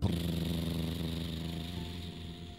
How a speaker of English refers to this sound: As the school bus pulled away, all the kids' parents were waving goodbye.